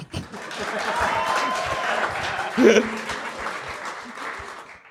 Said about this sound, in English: Give us an applause.